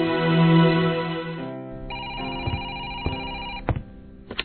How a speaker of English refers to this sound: At the Malone apartment, Raven is home alone when she receives a phone call.